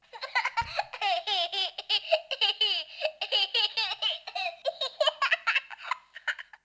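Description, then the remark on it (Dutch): A baby giggles continuously in rapid, bubbly bursts for several seconds, clear, with a faintly tinny, electronic quality, played from the small speaker of a children's sound book. “Nou, en dan hoor je dat gegiechel.”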